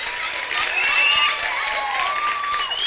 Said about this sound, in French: que je vous demande d'applaudir très, très, très, très fort.